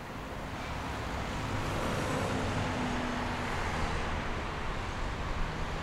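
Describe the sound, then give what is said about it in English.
Steady city street traffic noise in Madrid, a dense continuous rumble of passing cars and heavier vehicles, with no voices and no clear breaks in the flow. “Sheltering from the Madrid traffic inside the City Hall's gallery space, Centro Centro”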